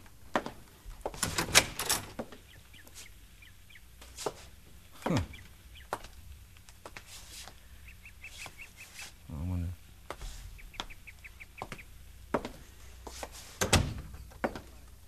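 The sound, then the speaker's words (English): A front door opens with a rattling clunk as someone answers it at dinner time, then after a long pause shuts again with a firm thump. A voice murmurs briefly in between, with faint birds chirping in the background. “Somebody comes to the door.”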